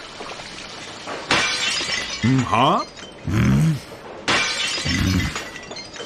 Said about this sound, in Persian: ای بچه گارسون، بگو ببینم تو حالا چند تا ظرفو شکوندی؟ من شرمنده یادم رفت بشمارم. این چه طرز معذرت خواهی کردنه؟ ظرفو رو ول کن، برو زمین رو تمیز کن.